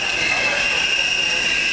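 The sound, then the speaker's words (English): A subway train braking, its wheels letting out a loud, sustained high-pitched screech that holds steady throughout over a rumbling rail noise. “A subway braking”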